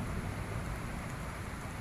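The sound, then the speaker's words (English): Thunderstorm ambience from a fast-moving storm, mainly to the north: a steady, low rumbling wash of noise with no sharp cracks, fairly quiet and continuous throughout, with no voices. “storm is fast moving”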